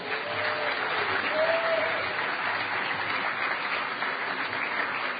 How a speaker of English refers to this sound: Next up, we have Bernie, who's going to be introducing a special guest from the EFF. Bernie, are you ready to go? Okay, round of applause for Bernie and the EFF.